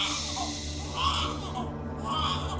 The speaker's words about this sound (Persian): هنوز داره نق میزنه، نمیدونم مشکلش چیه. اینجوری که این گریه میکنه شاه وزیرم میتونه صداشو بشنبه.